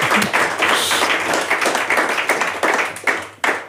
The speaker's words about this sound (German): Das möchte ich mit dem Applaus jetzt festhalten.